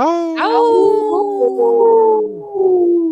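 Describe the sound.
A group of people howl together in imitation of wolves for the 'Howling for Wolves' call to protect wolves for future generations, their overlapping, sustained voices rising and then sliding slowly downward, loud, for a few seconds.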